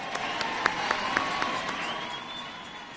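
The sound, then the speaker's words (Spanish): A crowd in the Plaza del Carmen, Granada, applauds steadily for the Duende Fermín at the Three Kings' arrival, with a dense wash of clapping and a few sharper claps standing out at a regular pace, while a faint high whistle-like tone rises and holds in the background. “Pido un aplauso fuerte para el Duende Fermín.”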